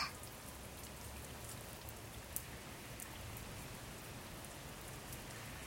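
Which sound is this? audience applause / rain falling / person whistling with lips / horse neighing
rain falling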